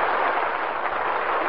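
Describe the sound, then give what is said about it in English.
The studio audience of the Lux Radio Theater applauds in a steady, dense wash of clapping that holds an even loudness throughout, with no voices heard over it. “That applause means you'll be with us again.”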